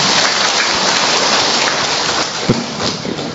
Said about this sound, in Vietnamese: Ừ, hay quá, cho một tràng pháo tay hoan hô bé.